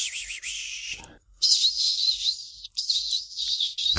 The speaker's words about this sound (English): How's the whistle sound?